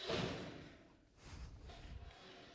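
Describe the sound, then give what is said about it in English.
A sudden heavy thud and clatter, like a person tumbling off a chair, followed by a few softer low bumps and scuffs. “Are my words so profound it just knocked you off your chair?”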